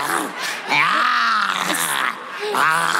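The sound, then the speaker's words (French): A person's voice imitates a growling tiger in a loud, drawn-out groan lasting about three seconds, its pitch rising and falling in a few swooping waves with a brief dip near the end. “Ouais, c'est ça, en mode tigre.”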